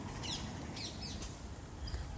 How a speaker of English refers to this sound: So we've ducked into the park. My AirPods are out of battery, which is really refreshing, actually. Which meant that I've been particularly aware of how many different bird sounds I've heard since I've left the house.